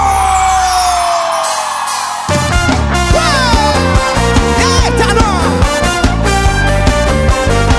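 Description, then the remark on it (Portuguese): A loud live crowd whoops and cheers in answer to the singer's call to shout, voices blending into a continuous roar as a band kicks into a driving, rhythmic song underneath. “Quem tá feliz solta o grito.”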